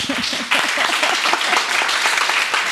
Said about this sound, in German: Wer in diesem Saal bitte einmal klatschen, hat es schon mal mit Yoga probiert?